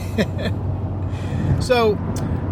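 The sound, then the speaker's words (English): Steady low rumble of a car cabin on the move on a trip back from Florida, a constant hum beneath brief voice-like chirps and a rising-falling tonal sweep, moderately loud throughout. “We're in the car, of course.”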